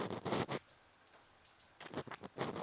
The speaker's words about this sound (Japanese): 雨の音、ちょうどいい BGM ですね。雨音って落ち着きませんか？無数に降り注ぐ優しい水。